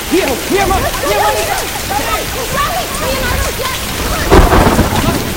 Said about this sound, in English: Okay, now it's definitely raining. It's a little, though. It's just a little.